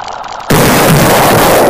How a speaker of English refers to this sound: What on earth caused that explosion? I don't care. What is all the commotion?